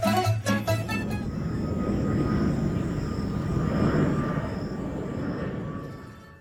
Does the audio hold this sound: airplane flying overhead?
yes